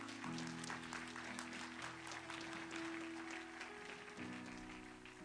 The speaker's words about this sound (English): Do we have any guests in the house this morning? Amen. Nobody wants to raise in. Awesome. Awesome. We got somebody. Amen. Amen. Thank you so much. Let's give our guests a round of applause, please.